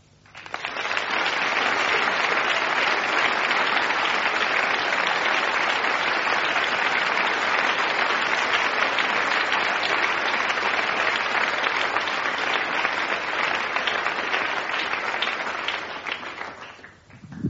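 Sustained applause from a large standing audience at a church, a dense, steady wash of many hands clapping at full volume for about fifteen seconds before tapering off, with no speech over it.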